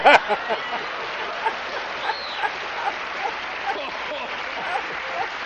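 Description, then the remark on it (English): The crowd on Sis Boom Ba claps and cheers steadily for several seconds, a dense, continuous wash of applause with a few sharper bursts near the start. “So, the genius of Sis Boom Ba is the crowd reaction.”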